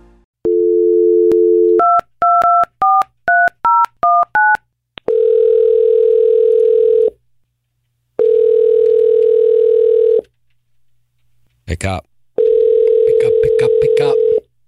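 A dial tone gives way to a quick run of keypad beeps, then an outgoing call rings in steady two-second tones with pauses, three rings heard clearly with no voices.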